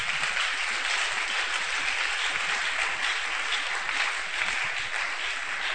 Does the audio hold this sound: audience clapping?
yes